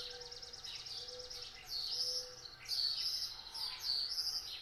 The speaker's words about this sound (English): Huge difference. How did all these birds get in my room?